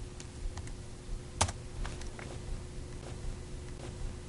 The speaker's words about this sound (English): So if I have a folder on my desktop where I keep a lot of my files at work, I can just start typing and navigate to the folder that I want.